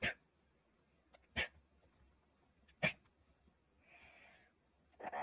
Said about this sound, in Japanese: ワンちゃんの顔、唾で汚れちゃいましたね。こんな情けない姿で、顔に唾吐きかけられて嬉しそうにして、ワンちゃんは本当に変態ですね。